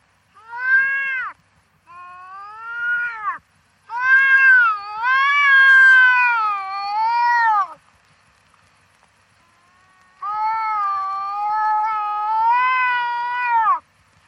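A wildcat gives several drawn-out, wavering meows and caterwauls, loud, in four separate calls with short silences between them and no talking.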